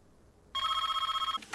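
A telephone rings once in a loud trill, a rapid warbling bell tone lasting under a second, followed by a brief rustle and no voices.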